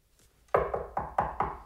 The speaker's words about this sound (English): You hear a knock at the door. You open up the door, it's me.